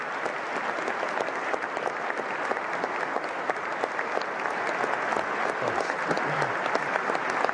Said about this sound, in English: Clap, you damn teabaggers.